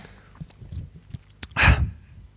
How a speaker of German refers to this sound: Das war, ich musste niesen und habe dafür das Headset abgenommen. Was? Wer kann denn mit diesem Anlauf niesen, dass er dafür das Headset extra abnimmt? Das ist ja beachtlich,